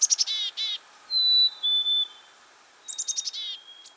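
A black-capped chickadee calls: quick buzzy, rasping notes, then two clear, high whistled tones, followed by another burst of harsh buzzy notes and a final thin whistle, with no one talking.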